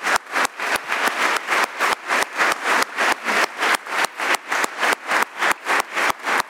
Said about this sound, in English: Now I'd ask that all be seated except those who work at Trinity today, whom I think we should all applaud for the wonderful work that they do in this place.